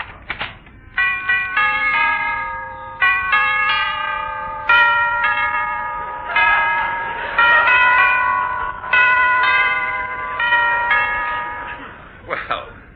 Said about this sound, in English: that's an unusual doorbell. Yes, you think so, sir.